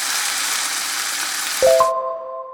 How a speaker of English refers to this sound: A sizzler comes from the word sizzle, which we use to describe the sound of something frying in a very hot pan. The word sizzle sounds a bit like the actual noise of the food cooking, doesn't it?